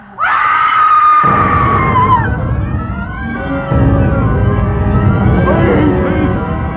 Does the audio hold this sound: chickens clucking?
no